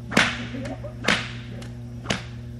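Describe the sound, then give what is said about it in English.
Three loud, sharp cracks of a long whip cutting paper in a demonstration ring out about a second apart, each with a fainter snap between them, over a steady low hum. “We do the paper cutting with these long ones, and the distance is a little bit greater.”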